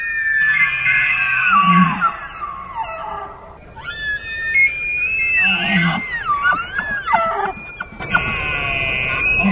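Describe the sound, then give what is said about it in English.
A double reed duck call blown in loud, raspy bursts of nasal squawks that slide up and down in pitch, coming in three separate runs with short pauses between them and no talking. “You're going to want a double reed call. The sound is going to be closer to a duck releasing its sound if you're just blowing into it.”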